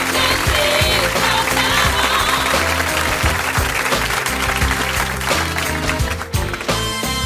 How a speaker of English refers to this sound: Well done for being such a good sport. Come on, guys, give him a big round of applause.